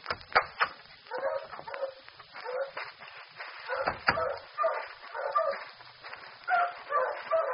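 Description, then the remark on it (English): A crowd of dogs in kennels, boarding or for sale, barks and yips together in a dense, overlapping clamor, with a few whimpers mixed in, continuous and moderately loud. “It opens directly onto the kennels.”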